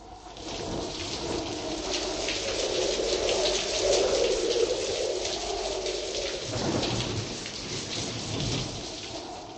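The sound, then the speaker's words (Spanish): Heavy rain pours down in a steady, hissing roar while low rumbles of thunder roll underneath, swelling and fading over several seconds, during a weekend thunderstorm with hail in the Czech Republic. No voices are heard. “Fuertes tormentas con granizo causaron graves daños el fin de semana en algunas zonas de la República Checa”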